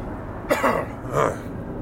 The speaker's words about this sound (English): I'm gonna clear my throat here, because I have the worst allergies lately have been killing me.